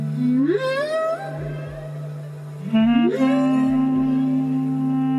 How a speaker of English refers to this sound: On the show this week, we'll be hearing more of the whale-inspired music you can hear in the background.